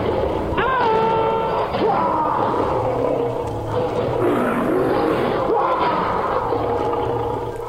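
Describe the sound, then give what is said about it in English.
A lion in the lion enclosure at Regent's Park Zoo in London roars and growls loudly and continuously, with deep rumbling snarls rising and falling in rough bursts, and a few yelping, gasping cries mixed in. “at Regent's Park Zoo, where I believe he is in the lion enclosure.”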